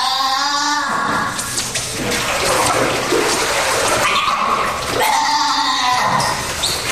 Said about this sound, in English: Anyway, this is Barclay the Sea Lion's child.